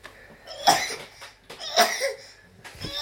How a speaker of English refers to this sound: Cough, cough.